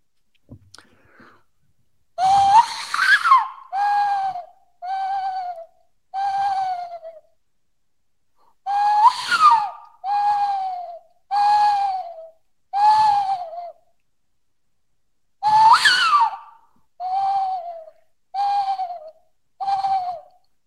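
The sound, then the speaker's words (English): A person imitates a western screech owl call, giving three clear bursts of hooting whistles. Each begins with a quavering note and is followed by several shorter, evenly spaced hoots. “That sounded a little bit like a western screech owl.”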